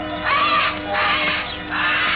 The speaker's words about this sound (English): Old man Kelso had a huge aviary at one corner of the house. Something had disturbed the birds.